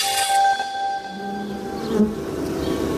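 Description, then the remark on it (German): Wasps buzzing, a steady droning hum with sharp shifts in pitch as they move around, continuous for the whole stretch with no voices. “Sommerzeit, Wespenzeit. Vielen gehen die gelb-schwarzen Brummer auf die Nerven und manche hat auch Angst vor ihnen, weil sie auch schon mal stechen.”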